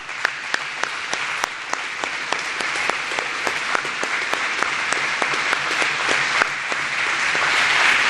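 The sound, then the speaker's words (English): An audience applauds steadily for about eight seconds to honor the current and former staff and board members of the Boys and Girls Club of Hopkinsville Christian County. It is a dense wash of many hands with a few sharper claps standing out at a regular beat, growing slightly fuller toward the end. “If you're one of these individuals, please stand, and let's give them a round of applause and honor them.”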